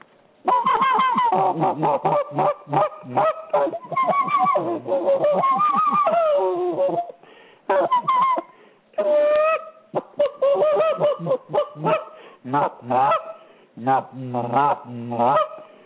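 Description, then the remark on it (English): A flock of young geese on the ground honk and chatter, their calls overlapping in a dense, continuous, fairly loud stream with only brief pauses. “These are geese on the ground, young geese, and they do this right here.”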